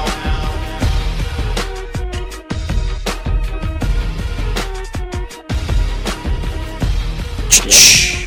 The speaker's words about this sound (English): I'm sorry, I didn't mean to interrupt your cracking open a beer.